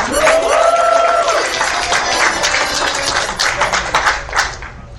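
An audience applauds a performer being introduced to sing a French song, with steady, dense clapping that lasts throughout, loud at first and tapering slightly, with a brief vocal whoop rising over the clapping near the start.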